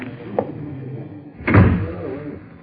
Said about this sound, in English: Close the door, Crow.